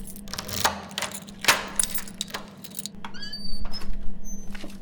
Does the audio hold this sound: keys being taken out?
yes